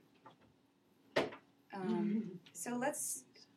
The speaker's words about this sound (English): You may want to shut that door, though.